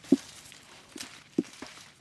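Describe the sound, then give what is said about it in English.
Soft, dull thuds of cherries dropping into buckets as cherry pickers work on tall 12-foot aluminum ladders on a bend in the Columbia River, two louder and a few fainter at an uneven pace, over a light rustling hiss of the ladders shifting. No one speaks. “Their bodies and faces are hidden up in the leaves, but you can hear the 12-foot ladders shifting and the soft thud of cherries in buckets.”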